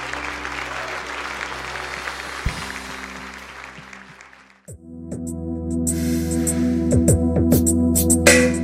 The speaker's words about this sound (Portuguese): Amém, querido? Você pode dar uma salva de palmas?